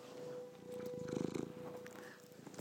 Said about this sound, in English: And Wackaboo-boo is not moving. He's sitting here purring. Listen.